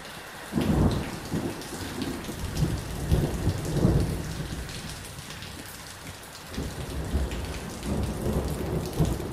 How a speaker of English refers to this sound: A thunderstorm rages east of Johannesburg. Rain hammers the corrugated iron roof of a small house in a bleak township.